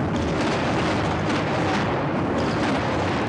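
Anti-aircraft gunfire and explosions at about 5:30 in the morning, at the start of the American and coalition military operations in Iraq, merge into a dense, continuous roar of loud, rumbling crackle that holds steady for a few seconds with no voices.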